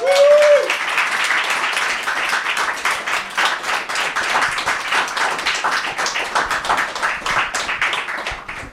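Dense audience applause for guests at a live show, a steady roar of many hands clapping for several seconds, opening with a brief whistle-like tone and holding fairly even in loudness throughout.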